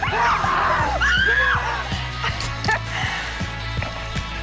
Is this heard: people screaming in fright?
yes